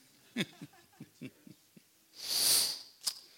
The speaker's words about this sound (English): Excuse me for sniffling.